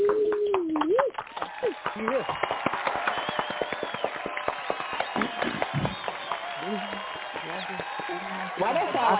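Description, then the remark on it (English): A burst of audience applause, many hands clapping in a dense, crackling stream for several seconds, with someone talking before it starts and voices rising again as it tapers off. “Can y'all give him a round of applause?”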